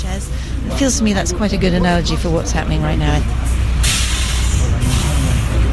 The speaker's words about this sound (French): Et voilà, le bus repartit pour poursuivre son périple.